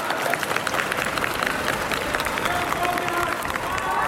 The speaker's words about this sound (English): I'm here in the main arrivals hall of the Hong Kong airport, and there's a crowd of people just sitting here. They break into cheers.